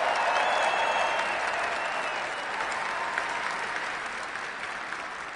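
An audience at an evening tribute event applauds steadily for several seconds, cheering for the honoree's mom and dad, dense clapping with a few whoops and cheers rising above it, the ovation slowly tapering off toward the end.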